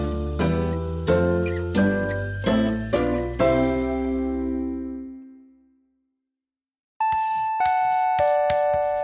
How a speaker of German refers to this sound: In der Schnittlich-Schule klingelt es zur Pause.